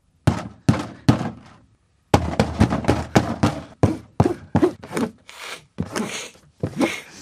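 Knocking on a wooden door: three hollow raps, a short pause, then a long, steady run of firm, resonant knocks, with no one speaking.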